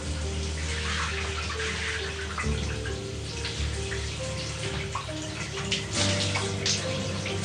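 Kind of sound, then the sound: household object, shower water running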